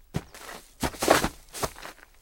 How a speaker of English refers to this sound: Tripping on a branch or a rock is no fun.